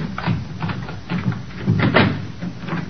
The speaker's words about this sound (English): Let me get the door open.